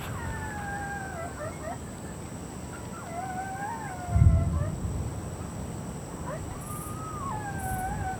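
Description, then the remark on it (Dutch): Several coyotes (prairie wolves) howl together in their territory in overlapping, wavering, sliding cries that rise and fall throughout, over a steady background hiss, with a brief low thump partway through. “Blijf maar dicht bij me in de buurt, want we bevinden ons nu midden in het territorium van coyotes. Oftewel van prairiewolven. Luister maar.”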